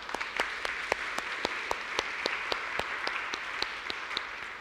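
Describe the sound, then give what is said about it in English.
A church audience applauds steadily, many hands clapping together in a dense wash with a few sharper individual claps standing out at a fairly regular beat. No one speaks. “We can applaud, too.”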